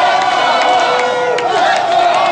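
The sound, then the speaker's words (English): A large crowd of hockey fans roars and cheers in the street outside the United Center in Chicago, chanting "Let's go Hawks" as they celebrate the Blackhawks' Stanley Cup championship; a loud, continuous wall of overlapping voices with scattered shouts and whoops rising above the din. “Let's go Hawks, those people were chanting.”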